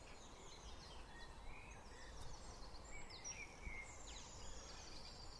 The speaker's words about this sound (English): Hear all the birds. I mean, I don't know, maybe you could hear that before, but I didn't notice it. So many of them.